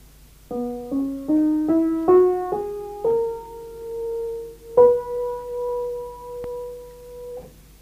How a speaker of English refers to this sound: And we'll stay with the key of C major, though the same scale with the same tonal intervals and values applies, of course, in the case of all the other major keys. So this then is the diatonic scale of C major.